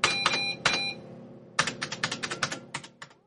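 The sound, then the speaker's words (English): Typing on a computer keyboard, clear: a few scattered keystrokes, a short pause, then a quicker run of clicking keys that trails off, as someone types a code. No voices. “He was typing a kind of code on the screen.”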